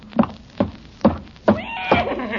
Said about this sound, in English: Good heavens, there is a horse in the kitchen. Not anymore. He's coming right here. Stand back, everybody.